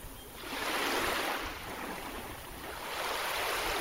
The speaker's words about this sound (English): Waves lapping on the beach at Portoferraio, a sound Napoleon Bonaparte would have become familiar with during his 10 months on Elba.